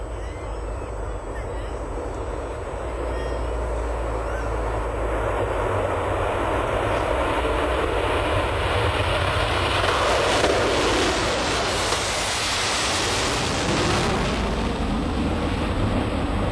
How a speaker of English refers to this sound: So Air France and British Airways were required to, when they break the sound barrier, to do it over the ocean. And I thought, would you like to hear the sound, the sonic boom? You would, wouldn't you? Okay, we're going to try and play it for you.